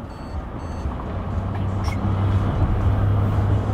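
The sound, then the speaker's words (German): A car's blind-spot distance sensor gives a couple of quick, fairly soft electronic beeps at the start, because the car came too close to the car beside it, over the steady low rumble of driving inside a moving car. “Die piept, weil ein toter Winkel war. Der Abstandsmesser.”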